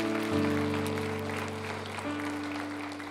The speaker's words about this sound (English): Would you give Pastor Boyd a big round of applause for that wonderful message?